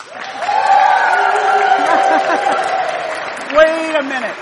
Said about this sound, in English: Wait a minute. You're applauding for all of them now, right?